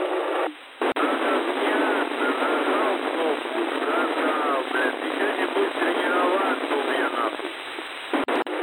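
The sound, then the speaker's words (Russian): Water gushes steadily from a pipe as it is started up, with white foam coming out, a continuous loud rushing hiss that fills the whole stretch, with faint, muffled voices buried underneath and a brief dip near the start. “Вода пошла. Колян, что идет из трубы?”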